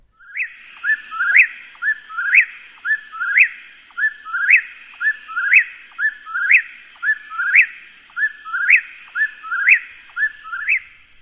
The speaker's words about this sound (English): Let's listen to first the whippoorwill, who's been identified by the Audubon Society as a top 20 common bird, actually in decline, right? Its name comes from its very recognizable call. Here it is.